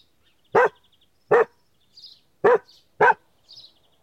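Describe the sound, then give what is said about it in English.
A dog barks four times in sharp, loud bursts spaced roughly evenly apart, with faint high bird chirps between the barks. “Look! A dog!”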